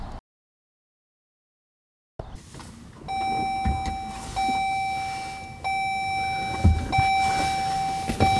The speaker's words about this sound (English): Alrighty, so I'm in the car right now. I have, by the way, a pretty cool setup for this. I gotta turn down the air here. The air was left over from coming back yesterday, which you can imagine was pretty darn warm.